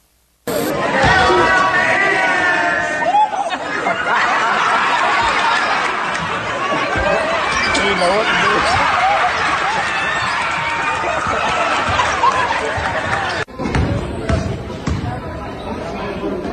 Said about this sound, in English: And when you hear the whole gym burst out, now there's multiple people who yell out, "That's my man," on this one. When he barely touches the rim, the entire bench loses their mind with excitement.